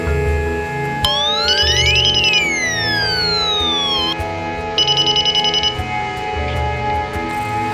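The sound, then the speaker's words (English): A wireless home security system's door chime sounds: an electronic tone that sweeps up then slowly down, layered with rapid beeps, followed by a second short burst of quick beeps over a steady hum. “First, I'm going to show you the door charm feature.”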